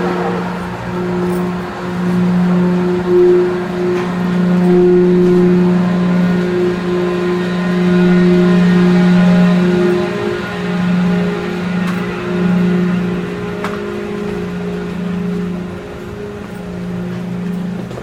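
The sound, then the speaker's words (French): A heavy, continuous engine drone aboard an aircraft carrier, a low tonal hum with steady harmonics that swells slightly but never stops. No one speaks. “Un peu piégeux au début du porte-avions, c'est la première fois que vous venez à bord du porte-avions.”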